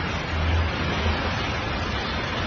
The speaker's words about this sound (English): We are aware of the sound of the cars out there.